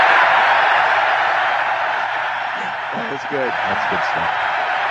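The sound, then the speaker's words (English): A big stadium crowd at Fenway Park on opening day 2005 cheers in a loud, steady, hissing roar that holds at the same level throughout as Yankees pitchers Randy Johnson and Mariano Rivera are introduced, with a voice briefly audible through the noise partway in. “The cheering lasts another 20 seconds, by the way.”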